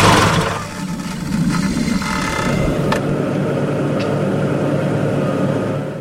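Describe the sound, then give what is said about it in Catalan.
A car is driven to the driver's home village, with a steady engine rumble and road noise, the motor droning continuously for several seconds with a couple of brief clicks partway through. “En Sang es va llevar del llit estabornit i va dir: agafaré el meu cotxe i aniré al meu poble a veure com està la meva família.”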